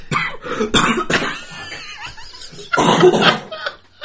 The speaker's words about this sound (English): That's made me cough for real now.